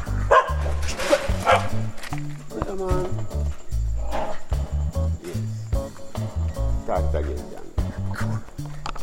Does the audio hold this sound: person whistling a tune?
no